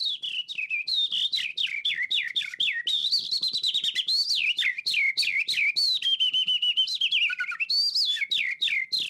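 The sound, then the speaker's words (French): A person whistles an imitation of a Eurasian skylark song: continuous trilling chirps and warbling high notes pouring out without pause, fairly loud, with no talking. “Donc, je vais faire l'alouette des champs.”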